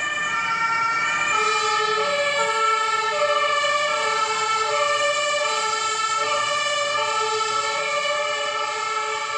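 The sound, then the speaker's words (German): A fire engine siren wails continuously, its layered pitched tones sliding up and down in a steady cycle, loud and unbroken throughout with no voices over it, as the fire brigade turns out to a reported burning fuse box. “Gerade wurde gemeldet, ein Sicherungskasten brennt. Die Feuerwehr rückt aus.”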